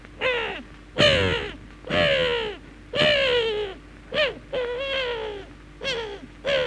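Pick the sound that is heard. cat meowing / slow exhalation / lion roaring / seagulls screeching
seagulls screeching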